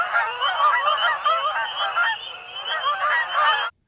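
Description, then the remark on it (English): A flock of Canada geese in a salt marsh and bay on the Cape in winter honks continuously, many overlapping calls blending into a loud, steady chorus that runs for several seconds before cutting off abruptly. “Birds feed and shelter in the salt marsh and bay in winter, particularly brant and Canada geese, buffleheads, red-breasted mergansers, and black ducks.”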